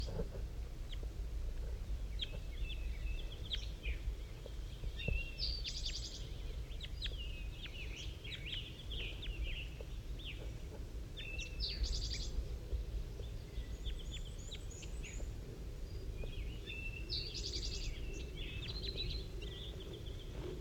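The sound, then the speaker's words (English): Soft, high bird calls repeat back and forth in short bursts and brief trills as the bird 5-3 calls to a wild bird that has landed in a pine tree, over a steady low rumble with no talking. “5-3's calling to it.”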